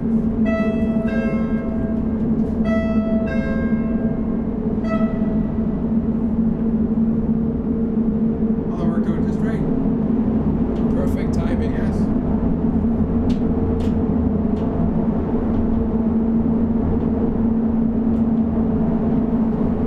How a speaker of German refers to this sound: Was war das jetzt wieder für ein Geräusch? Das ist der Anfang von einer über 4 Minuten langen Einfahrt ins Bergwerk. Wir fahren auf 1600 Meter Tiefe zusammen mit dem Kumpel in dem Korb, der mit einer atemberaubenden Geschwindigkeit in die Tiefe